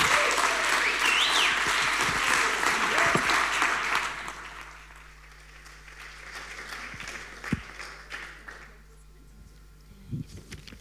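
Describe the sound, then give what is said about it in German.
An audience claps in a loud, dense burst for about four seconds to welcome the first speaker onto the stage, then the applause quickly dies away, leaving quiet with a few faint scattered sounds. “und deswegen wünsche ich mir jetzt gleich die erste Speakerin auf die Bühne und ich wünsche mir von euch, dass ihr sie mit einem herzlichen Applaus unterstützt.”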